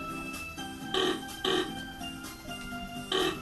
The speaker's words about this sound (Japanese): これ音だけ聞いてる人分かんないよね。これ今豚だった。 豚ですね、うん、はい。